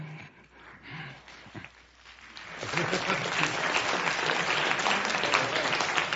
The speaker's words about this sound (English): Yeah, you clapped for those guys, so...